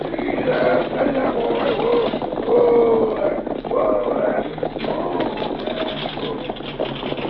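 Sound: horse-drawn stagecoach arriving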